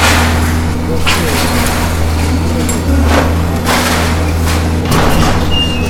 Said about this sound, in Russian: Это внутренний двор злополучного торгового центра, где располагалась автостоянка. Сейчас на ее место валится строительный мусор.